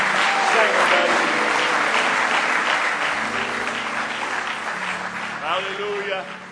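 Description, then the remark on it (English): An audience claps hands in praise, a dense, steady burst of applause that gradually softens, with voices calling out over it and a brief sung or shouted tone near the end. “Give him one more real good hand clap of praise if you love him.”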